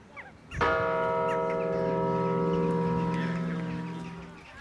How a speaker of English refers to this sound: So yes, the whole body is involved, and each ringer has a different connection to the bells. There are waves of sound, flowing waves.